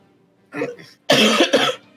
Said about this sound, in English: They appear to be having a coughing fit. I was coughing. Oh, sorry. I assumed you didn't want to hear me coughing.